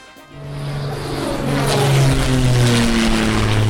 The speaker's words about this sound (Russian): молодец, поменял самолет на кукурузник.